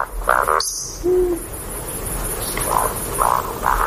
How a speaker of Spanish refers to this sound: Eso, esa es la becada. Sí, el ronroneo y el siseo ese. Y es muy bonito porque la oyes venir desde lejos, ¿no? Y aparece por el claro del bosque y te pasa por encima y se vuelve a ir.